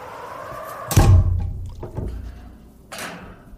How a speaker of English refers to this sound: We found a small break in the ice where we placed my little sub. And there it is. She's a beaut. I call her Atlantis. Let me just climb in, close up the hatch door.